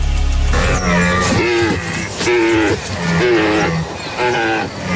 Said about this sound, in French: C'est dans la forêt, 15 secondes. Une vache. Dans la forêt. Le brame de cerf.